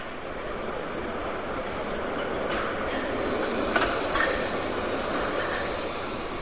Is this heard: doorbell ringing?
no